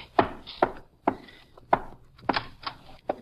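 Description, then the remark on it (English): Seven or so sharp, heavy blows from a gun strike window glass to knock it in, in an uneven rhythm, each a hard knocking crack that fades quickly, with no voices. “I'll knock this one in with my gun, then I'll climb in and let you in through the door.”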